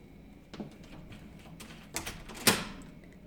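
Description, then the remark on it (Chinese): A door being locked from inside: a soft click, then a pair of sharper metallic clacks ending in one loud snap, in an otherwise quiet, empty room. “等等，你是在锁门吗？你竟然把门反锁了，有点不对劲啊！”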